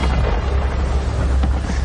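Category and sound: nature, thunder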